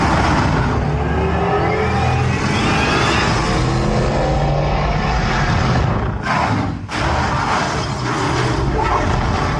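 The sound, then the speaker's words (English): A heavy black armored vehicle's engine in a film scene roars loud, rumbling and revving steadily for several seconds, then cuts out abruptly for a moment before surging back. No one speaks. “I was on the edge of my seat when this vehicle came out. Black tank.”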